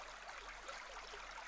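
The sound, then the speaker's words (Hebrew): A flowing stream rushes steadily, a continuous bright babble of water that holds an even level throughout, with no voices or other sounds, played as nature sounds for a meditation. “בואו נלך קצת על איזה נחל זורם,”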